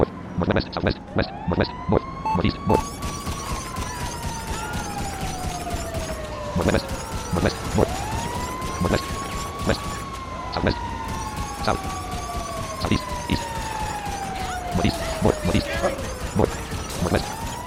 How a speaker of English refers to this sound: There's a fire truck coming.